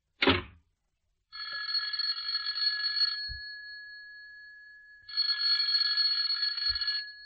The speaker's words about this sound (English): You go outside and ring the bell again, and I'll show you where you're wrong.